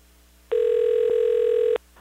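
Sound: telephone dialing and ringing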